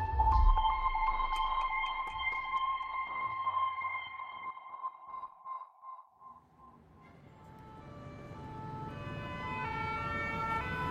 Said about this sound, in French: Octobre 1994, Paris. Sur la place de la Nation, les sirènes des pompiers répondent au pimpon des policiers.